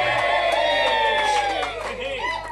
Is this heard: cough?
no